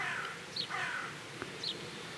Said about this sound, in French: Par intermittence, j'entends même le chant des oiseaux.